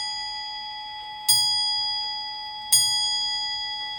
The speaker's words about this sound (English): I love the tick, the resonating tick of a grandfather clock.